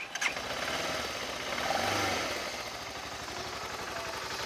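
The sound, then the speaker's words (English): A BMW G650 GS Sertao motorcycle engine at the BMW Motorcycle Club of Colorado rally cranks and catches, then settles into a steady, fairly quiet idle with a brief rise in revs, with no voices. “Fairly quiet. compared to my road bikes, very, very quiet.”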